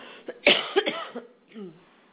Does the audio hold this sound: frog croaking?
no